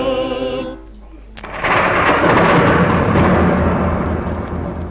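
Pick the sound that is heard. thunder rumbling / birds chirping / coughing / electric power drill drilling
thunder rumbling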